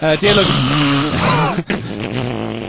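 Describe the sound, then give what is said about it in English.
Loud, exaggerated heavy breathing pressed right into a microphone, voiced and groaning, with a short gasp near the middle before the drawn-out huffing resumes. “it's called Breathe Into the Microphone.”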